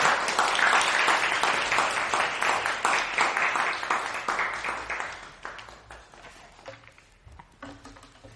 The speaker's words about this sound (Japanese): 心から祝福を祈りつつ、また神様に期待しつつ、大きな拍手を持って今朝も